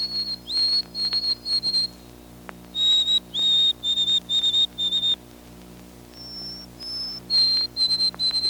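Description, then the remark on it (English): A white-throated sparrow's autumn song: clear, high whistled notes in several short phrases, each note repeated, some sliding slightly in pitch, over a steady low background hum. “They seldom sing in autumn, and even when one does, his song sounds pitiful, a dismal version of the beautiful spring whistle.”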